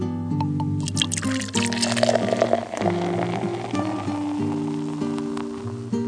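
Beer glugs and fizzes as it is poured into glasses, a steady stream with splashing and foaming, heard on its own without any talking.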